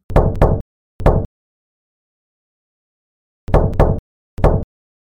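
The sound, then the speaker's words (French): Loud knocks on a door in a measured pattern, the three Masonic ritual knocks struck by the second warden: two quick raps and a third, then after a silent pause the same three-knock sequence repeats. No voices. “Le frère second surveillant va frapper 3 coups en maçon contre la porte.”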